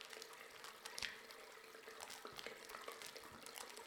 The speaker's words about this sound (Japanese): まずはハーブ石鹸を手に取りまして、両手でゆっくりたっぷり泡立てていきます。